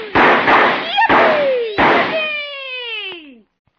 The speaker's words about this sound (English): This looks like as good a spot as any to start the fireworks